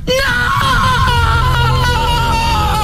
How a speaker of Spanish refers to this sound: Quería escuchar a Belén Rueda, que es más actriz que tú, a lo mejor. Mira. Eso es un grito de terror